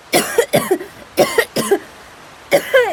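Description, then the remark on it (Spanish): Harsh, heavy coughing in a rapid fit from a pale woman lying on beach sand after being pulled from the sea: two pairs of coughs close together, a short pause, then another hacking cough, loud with no speech. “Lola está en la arena, blanca como un papel, y tiene mucha tos.”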